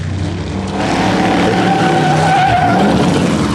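A car races along a road winding beside the sea, heading back to Monte Carlo, its engine roaring steadily while tires squeal and skid in long, drawn-out screeches, loud and continuous with no voices.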